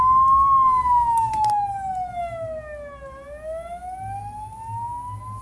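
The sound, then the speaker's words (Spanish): An ambulance siren wails loudly and steadily, its tone gliding slowly downward and then sweeping back up, over a low rumble of road traffic. “Llamen por favor a la ambulancia.”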